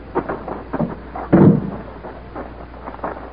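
A heavy hangar door, housing a spaceship, opens with a single loud, low rumbling boom lasting under a second, surrounded by quieter murmuring sounds before and after.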